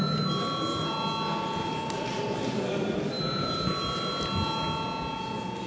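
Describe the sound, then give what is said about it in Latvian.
A steady electric bell in a parliament chamber rings continuously for several seconds to call a vote, a sustained metallic buzzing tone with a faint murmur of room noise underneath. “Paldies, lūdzu zvanu.”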